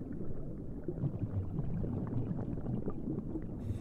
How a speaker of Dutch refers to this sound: Water versterkt geluid. Dus wat wij horen, dat is scheepvaart.